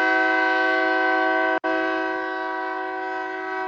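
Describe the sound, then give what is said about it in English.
A loud horn of a passing train blares in a long, steady chord, cutting out for a split second before sounding again and holding to the end, with no voices. “Well, the train agrees.”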